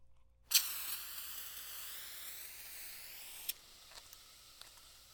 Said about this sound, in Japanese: それはボディーソープですか。炭酸入りの。なるほど。聞いたことはありますが、実際使うのは初めてです。